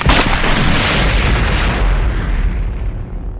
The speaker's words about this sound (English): But before he could fire, the speeder bike flipped in the air, tumbled out of control, and crashed through the wall of a distant building at roughly 200 kilometers per hour.